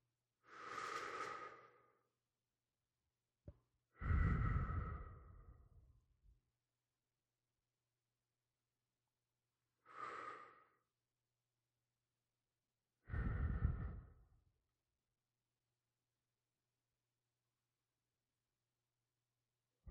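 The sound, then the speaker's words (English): Slow, deep breaths drawn in and pushed out during a guided breathing exercise, four long airy swells spaced several seconds apart, fairly loud, followed by a stretch of quiet with a faint steady hum beneath. “Inhale and exhale. Focus on your breath.”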